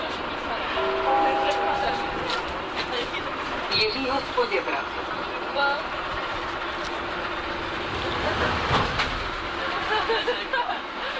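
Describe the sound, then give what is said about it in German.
A subway train rattles along with a steady, fairly loud rumble, sharp clanks and a brief tonal whine, while indistinct voices murmur in the background. “Der Wind pfeift häufig, U-Bahnen rattern und Lautsprecherdurchsagen knarzen.”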